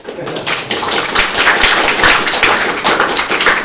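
Audience applause: many hands clapping in a dense, steady patter that holds at an even, fairly loud level for a few seconds, with no voices over it.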